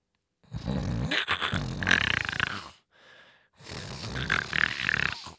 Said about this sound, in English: Sniff, sniff. It was trying to pick up their scent.